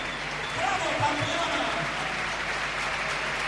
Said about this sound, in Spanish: Así que está saludando con su equipación de la selección española. Y el aplauso para Irene Pelayo.